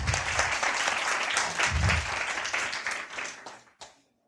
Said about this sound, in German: Mal ein Applaus für den Mann von der Technik.